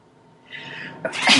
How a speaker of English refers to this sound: Excuse me. My cat is on my lap and I'm sneezing.